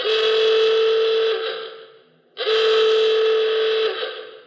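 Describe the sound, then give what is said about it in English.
Two long, loud blasts from a klaxon car horn, each a harsh, buzzy "awooga" that swoops up at the start and holds a steady nasal tone, separated by a brief gap. “No, that awooga, awooga is specifically a klaxon.”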